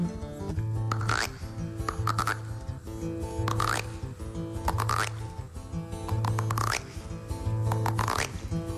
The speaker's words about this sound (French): Eh bien, ce petit garçon, il s'assoit sur un tronc d'arbre et il écoute les grenouilles. D'abord, elles ne parlent que le langage des grenouilles, quoi. Quelques-unes disent...